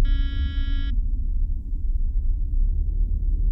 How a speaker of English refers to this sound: Push the button. You hear a little beep.